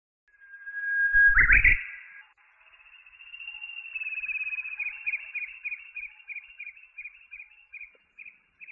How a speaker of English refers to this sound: Thank you, little bird. Your singing makes me happy.